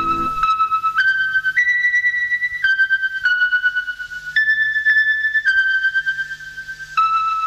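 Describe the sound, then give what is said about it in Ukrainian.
The 1980s Radio Svoboda interval signal: the melody of the folk song 'Liubliu nash krai' with words by Kanstantsyia Builo, a simple melody of clear, sustained electronic tones, about a dozen notes stepping up and down at a steady, unhurried pace with no voices. “ретро-сигнал радіо з 80-х годів”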